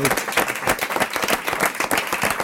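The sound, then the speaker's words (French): A crowd applauds steadily, many hands clapping in a dense, continuous patter that stays loud and even throughout, with no voices standing out. “Vous applaudis.”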